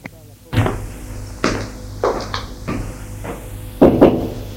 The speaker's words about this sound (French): Puis, va frapper à la porte du bureau de son père.